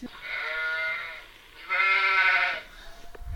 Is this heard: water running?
no